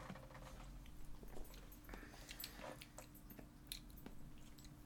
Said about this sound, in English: Did she eat all her... Bro, she's such a fucking whore for wet dog food. Fat fuck.